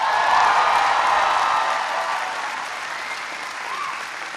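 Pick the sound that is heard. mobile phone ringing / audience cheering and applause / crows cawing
audience cheering and applause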